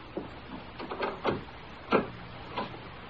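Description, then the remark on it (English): The door to the living room being opened: a string of wooden clunks and latch rattles, with two louder knocks midway and a softer one at the end, and no voices. “Don't open the door to the living room.”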